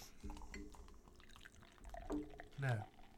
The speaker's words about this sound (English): So let's pour these into our glasses.